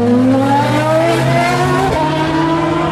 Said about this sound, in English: Nice sound, nice sound. So what we've got here is an example of the cars engaging full power from... That was a Cadillac engaging full power from the line to accelerate onto the straight. So you get to hear and see them because they flash by here.